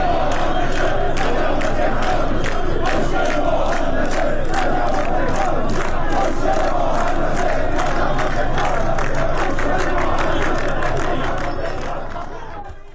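A large crowd of protesting firefighters in Tehran chants slogans in unison, such as 'Proper livelihood is our undeniable right', loud and sustained, with rhythmic shouted phrases repeating over a dense wash of voices for about twelve seconds before fading slightly at the end.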